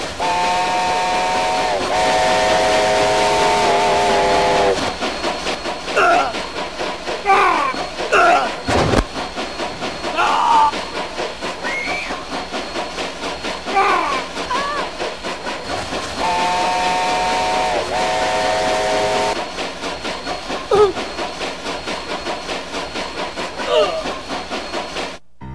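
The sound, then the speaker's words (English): A steam train chugs along with a loud, sustained whistle blast at the start and another about twenty seconds later, with hissing and rumbling mechanical noise continuing in between. “He's robbing the train!”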